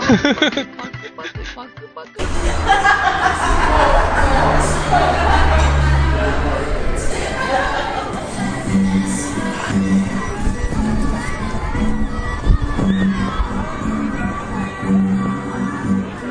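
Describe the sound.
A loud, dense crowd din inside the Coney Island amusement park, with overlapping voices, children among them, and general commotion filling the space continuously after a brief quieter opening.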